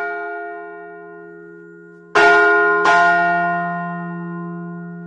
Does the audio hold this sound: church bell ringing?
yes